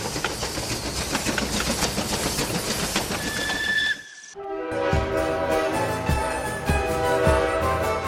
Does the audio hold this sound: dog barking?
no